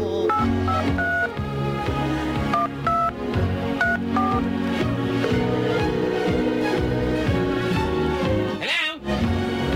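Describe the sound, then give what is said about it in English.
A quick series of telephone keypad tones beeps out as someone pages a vibrating beeper, several short pitched blips in the first few seconds, sitting over a loud, busy music bed that continues to the end. “All right, now I've just beeped her.”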